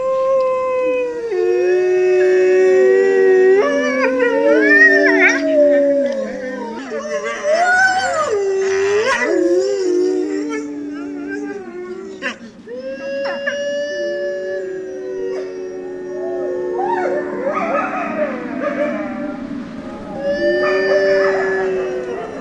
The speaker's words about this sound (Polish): W tej mowie wilków jest bardzo dużo różnych znaczeń tego wycia. Każdy znaczy co innego. I poszczekiwanie, i szczekanie, i wycie.